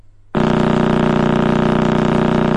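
Sonified radio emission from the Crab Nebula begins abruptly after a brief quiet moment, a loud, steady, buzzing drone with dense harmonic layers and a fine, rapid pulsing texture, sustained without pause.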